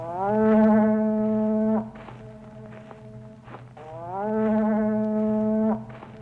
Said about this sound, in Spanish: Un hombre, un íbero de las tribus layetanas, soplaba en la caracola marina. Había aprendido que el sonido ronco de la caracola alcanzaba más lejos que su voz.